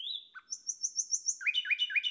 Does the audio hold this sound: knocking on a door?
no